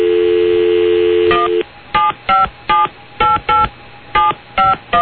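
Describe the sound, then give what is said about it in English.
A steady telephone dial tone cuts off, followed by about nine short electronic keypad beeps as a number is dialed, pressed in an uneven rhythm, clear, with no talking. “Let me dial it up for you.”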